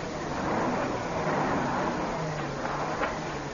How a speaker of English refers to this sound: Hey, he's stopping there up the road. Yeah, he's going to come back. I thought a truck couldn't turn around on this narrow road. A record can. It's only got a short wheelbase.